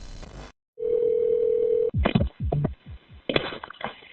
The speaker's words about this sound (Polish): Po tym, jak Christopher odpowiedział funkcjonariuszom z korytarza, grupa zastępców z zewnątrz domu próbowała nawiązać kontakt, dzwoniąc na telefon Christophera.